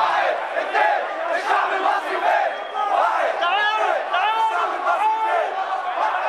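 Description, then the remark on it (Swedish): A large crowd of protesters chanting and shouting together in Tahrir Square, Cairo, Egypt, on 25 January during the revolution, calling to hesitant onlookers along the sidewalks; a dense, steady roar of many voices with rising rhythmic calls layered throughout, loud and continuous with no pauses. “egyptiska folket, var är ni, ropar demonstranterna till tveksamma åskådare längs trottoarerna.”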